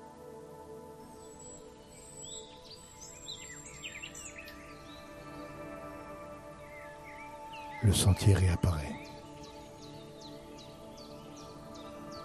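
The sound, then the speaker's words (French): Birds chirp and twitter steadily in the background of a quiet woodland scene, with a calm voice speaking briefly over it and a short burst of rustling noise near the end. “Et vous marchez de nouveau dans le sous-bois, agréable, accompagné du chant des oiseaux.”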